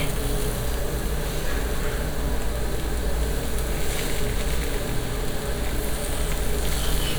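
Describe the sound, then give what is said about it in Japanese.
Bean sprouts sizzle steadily in a hot pan, a dense, even hiss of crackling frying noise that stays loud and continuous throughout, with a low rumbling undertone and no voices. “すごい音してるよ。めっちゃ落ちてる。ほらほら。超ジュージュー。”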